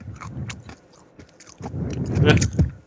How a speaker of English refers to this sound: It's loud. You sound like a cow. Anyway, I'm eating my carrots. Eat your carrots like a little rabbit.